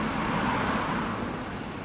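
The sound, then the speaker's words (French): A bus taking citizens to the European Parliament in the morning drives along the road with a steady engine rumble and broad road noise. It is loud throughout, and no one speaks. “Chaque matin, un bus emmène nos citoyens ambassadeurs au Parlement européen pour leur réunion de travail, avant de débattre l'après-midi avec les politiques présents.”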